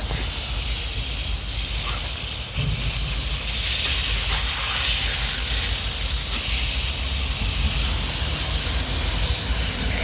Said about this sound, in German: Ja, hier haben wir wohl doch wohl ein kleines Problem. Interessant. Hier kommt irgendwie Wasser raus. Aus dem Rohr und... Oh, das ist neu.